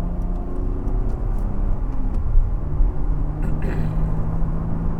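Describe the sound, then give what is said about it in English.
Steady, loud vehicle rumble with droning engine tones from a car racing up fast from behind on the road, holding a fairly even level throughout with a few brief whooshing swells and no talking. “Jesus, why do people have to race up behind your ass like that?”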